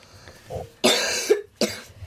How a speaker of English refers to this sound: Cough? No, you can't cough with a computer.